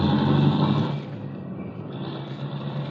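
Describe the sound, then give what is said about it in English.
A car engine roars, a loud, low drone with a whining rasp on top, easing off a little after the first second and then holding steady, as the car chases another car through heavy traffic. No voices. “I know, but there's too much traffic here to go much faster.”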